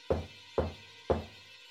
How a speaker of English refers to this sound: One night, a group of adults was having a dinner party. There were six of them, and they had all just taken their seats when they heard an unexpected knock at the door.